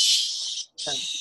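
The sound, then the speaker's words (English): A squeaky squid toy lets out a loud, harsh, airy squeal, like a pig's shriek. It stops briefly, then squeals again, with a short voiced grunt at the start of the second burst. “By the sounds of a squid, you mean a pig being slaughtered.”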